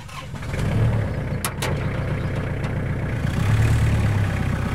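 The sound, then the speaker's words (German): A tractor engine on a farm field cranks and catches, then settles into a loud, steady diesel rumble with a couple of metallic clanks early on, with no voices. “Der Traktor auf dem Feld, womöglich wird er zu einem Auslaufmodell.”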